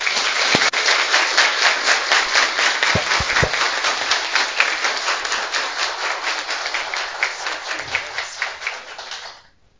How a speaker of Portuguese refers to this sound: Então, fico feliz, agradeço a presença de todos de novo e peço uma salva de palmas para esses jovens vereadores.